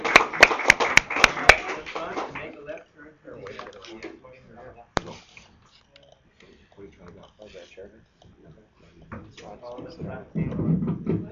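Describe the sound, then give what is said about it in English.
A door clicks and knocks, a quick run of sharp taps at the start, then a single latch snap a few seconds later, with people talking throughout. “That's the door.”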